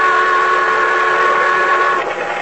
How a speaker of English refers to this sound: But the boat siren, crying its warning, drowned out my shouts. Went on fast, and the fog closed in behind it.